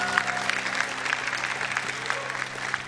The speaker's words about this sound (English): Now, let's give them a big, big hand clap for being with us tonight.